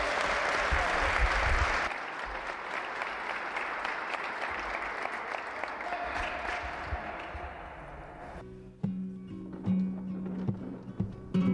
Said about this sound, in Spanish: No obstante, estamos muy, muy, muy orgullosos de todos vosotros. Un aplauso muy grande para ellos.